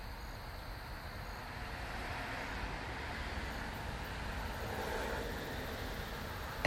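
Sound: car passing by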